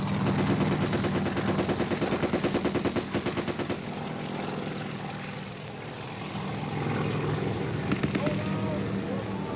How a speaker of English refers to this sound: Getting out of those choppers, getting off the LZ. We're going in. Chopper's gunner opens up on the tree line.